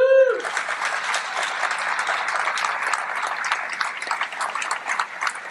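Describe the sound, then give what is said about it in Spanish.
Senators and deputies of Mexico's Congress of the Union applaud steadily after a minute of silence, in a memorial tribute to chamber president Ifigenia Martínez: a dense wash of hand claps that holds at an even, fairly loud level throughout, preceded by a brief tonal chime at the very start. “Con un minuto de silencio, seguido de una ola de aplausos, el Congreso de la Unión rindió un homenaje luctuoso de cuerpo presente a la diputada presidenta Ifigenia Martínez, quien falleció este sábado a los 94 años.”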